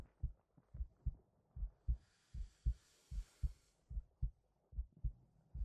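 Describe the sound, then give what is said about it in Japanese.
A muffled heartbeat thumps in steady lub-dub pairs, about eight beats in a row, with a faint airy hiss rising briefly in the middle and no voices. “それに心臓の音が聞こえるから。”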